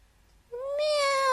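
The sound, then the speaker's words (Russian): A kitten lets out one drawn-out, high-pitched meow that starts abruptly after a short quiet moment and grows slightly louder as it holds, while it tries to break free from a person's hands. No talking. “«Мяу!» Снова крикнул котенок, пытаясь вырваться из рук Фати. Мужчина услышал мяуканье”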